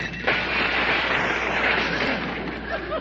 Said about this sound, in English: But don't slam the door because I just put a new glass in it and it might break.